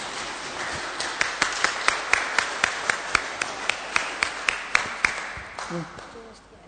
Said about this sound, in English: So let's give them a big clap as they come forward.